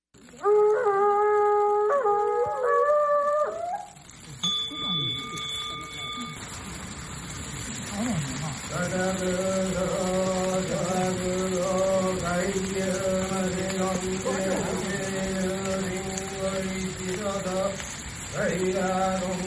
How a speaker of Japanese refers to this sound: さあ、今から火がつけられていきます。パチパチパチパチという風にね、音が鳴ってると思いますけれども、それがこう火がついている様子です。